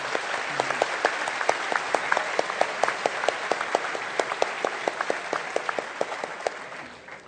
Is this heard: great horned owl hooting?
no